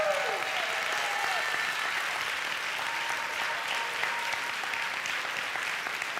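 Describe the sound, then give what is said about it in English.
An audience gives the Lord a hand clap in sustained, dense applause, steady and fairly loud throughout, with faint tonal sounds and scattered voices mixed into the crowd noise. “Next 30 seconds, give the Lord a hand clap.”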